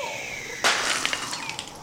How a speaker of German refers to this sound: Oh, das klang wie ein Dachziegel. Gut, dass den keiner auf den Kopf bekommen hat.